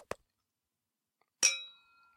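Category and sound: household object, glasses clinking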